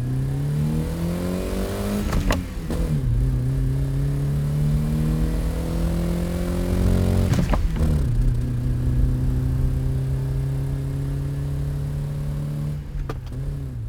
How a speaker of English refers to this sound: I can be entertained by the sound of the motor. I like to hear the car to stay connected to it. It's not uncommon for an enthusiast to drive for hours at a time without listening to the radio, without listening to anything but the sound of the motor.